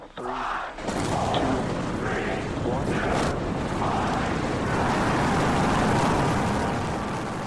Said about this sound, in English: With a mighty rumble, the giant rocket lifted clear of its Texan launch complex, all 33 engines firing at full power.